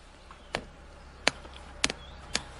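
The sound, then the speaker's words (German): A small wood fire burning in a Bushbox stove crackles quietly, with four sharp, irregularly spaced pops and snaps, one of them doubled, over a soft steady hiss. “Jetzt ist jetzt hier die Bushbox. Da brennt unser Feuer. Hören wir mal rein.”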